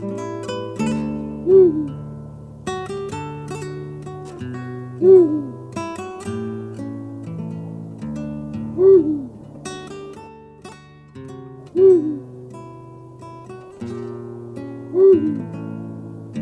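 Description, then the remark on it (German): Five deep, booming hoots of a Eurasian eagle-owl sound at slow, regular intervals, each short and prominent, over a steady background of soft music. “Das war der Uhu.”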